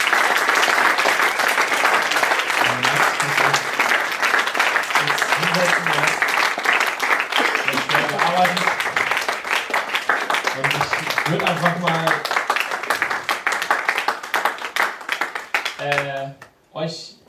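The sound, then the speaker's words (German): Sustained audience applause at the end of a talk, a dense, steady wash of many hands clapping for about sixteen seconds, with faint voices murmuring underneath, before it drops off abruptly and a voice briefly speaks. “Erstmal können wir den Applaus geben, glaube ich.”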